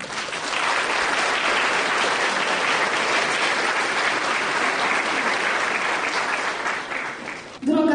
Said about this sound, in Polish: I gorące, gorące brawa dla Was.